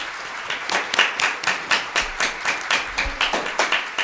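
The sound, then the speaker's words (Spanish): Applause from a small group, with steady, fairly rhythmic clapping that keeps up evenly for about four seconds with no voices over it. “Un aplauso.”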